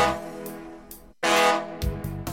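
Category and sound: vehicle, ship horn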